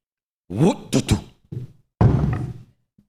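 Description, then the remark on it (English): A voice imitates the heavy thumps of a truck running over a dog: several short, loud bursts followed by a longer rumbling one, then silence. “That's what it sounded like when my dog got ran over.”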